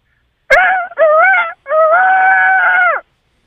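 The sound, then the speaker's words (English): A person's voice imitates a rooster crow: a short click, then three strained, tonal syllables, the last one drawn out and held steady before cutting off, with no talking around it. “What's your animal? A rooster. Oh, a rooster. Okay, I like this.”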